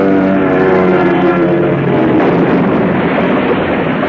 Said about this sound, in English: A plane falls screaming to the earth.